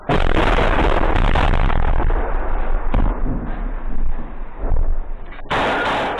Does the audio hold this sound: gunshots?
yes